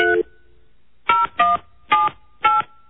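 Five loud, distinct touch-tone beeps from a phone keypad being dialed to call a cell phone, each short and separated by brief pauses, with no talking.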